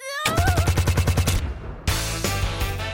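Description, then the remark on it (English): A loud burst of rapid automatic machine gun fire, about a dozen evenly spaced shots in quick rhythm, followed by a sustained roar of continued heavy gunfire. “So here comes the lovely Anthea sporting a very fetching, off-the-shoulder machine gun.”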